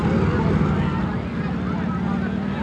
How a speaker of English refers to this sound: And here come the police. One, two, three, four police on motor scooters. One demonstrator knocked down by a motor scooter policeman.